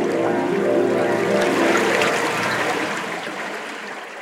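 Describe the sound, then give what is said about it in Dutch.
A loud rush of surging river water, a big wave crashing onto an oven and putting out its flames, roaring steadily for several seconds before easing off slightly at the end. No voices. “En in een grote golf wierp de rivier zich op de oven, die meteen gedoofd werd.”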